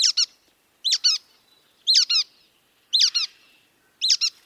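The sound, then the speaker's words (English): A brown-headed nuthatch gives squeaky, doubled call notes, each pair a high nasal squeak, repeated five times at roughly one-second intervals, clear with nothing else in the background. “While the brown-headed nuthatch comes off as squeaky.”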